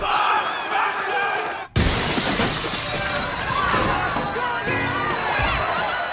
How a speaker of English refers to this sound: The rioters ram a street lamp into the supermarket window and storm inside.